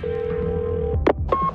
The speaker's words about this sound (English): You step into a phone booth and dial.